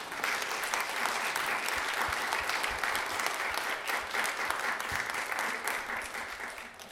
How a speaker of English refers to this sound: Yes, this is for Samaritan House food cards from the kids. They deserve an applause.